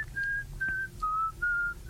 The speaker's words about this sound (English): The special whistling. It was too classical. Who knows Bach? And I was trying to whistle like Bach.